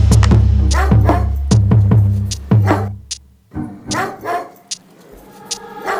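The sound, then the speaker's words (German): A dog barks repeatedly in quick, loud bursts over a low, steady drone, then the barking gives way to a few softer yips and whining, vocal-like sounds. “Du hättest auch gern so einen Hund wie ich. Einen wunderschönen Hund wie ich.”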